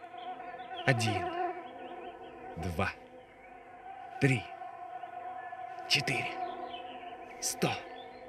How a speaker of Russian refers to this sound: 1, 2, 3, 4, 100, 1000, 1000000 комаров. И все они что-нибудь и зачем-нибудь жужжат около меня.